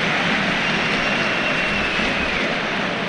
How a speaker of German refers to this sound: Applaus von den Rängen für Kaspar Dzibilko. Ist ja eine Leihgabe des 1. FC.